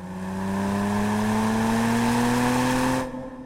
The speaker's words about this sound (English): It's a 1954 Porsche Spyder, a car built for pure speed, for breaking limits, for danger. It's a beautiful car, the Spyder. Polished silver, like a jet fighter, long curved wheel arches.